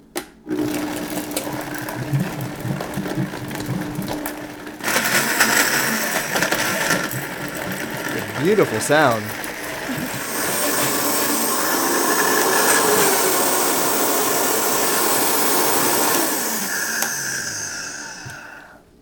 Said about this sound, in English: So everything's in there. Okay, so just a few splashes of coconut milk into the blender to help it move along when you blend it.